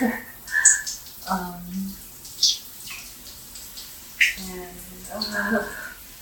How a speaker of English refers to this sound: I don't know if the audio is going to be scuffed because I'm using my phone for one. And two, obviously, the acoustics of the shower and, like, the water.